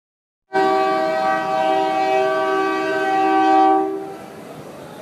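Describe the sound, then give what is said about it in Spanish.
A freight train's horn blares in one long, loud, sustained chord over the rumble of the passing train, on the railway beside the Albergue Hermanos en el Camino shelter that runs south to the Guatemalan border, then cuts off while the low rolling noise of the cars continues. “El tren que llega por acá solía venir llevando muchos migrantes centroamericanos encima, pero ya no es así.”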